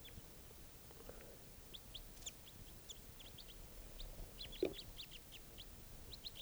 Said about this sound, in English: The songster just went down. So according to the bird who was singing was just captured, and I'm letting him hang in a net.